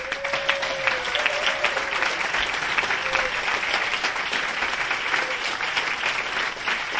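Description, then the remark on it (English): Sustained applause from a sizable audience thanking the homework graders for several seconds, a dense steady patter of many hands clapping with a few faint whistles or cheers mixed in. “And can all the graders stand up, just so we can thank you and give you a proper applause?”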